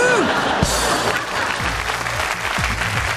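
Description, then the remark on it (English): Dense, steady applause from a crowd, added as a sound effect, fills the whole stretch, a continuous wash of many hands clapping with a faint cheer or two mixed in. “Obviously, we added the applause.”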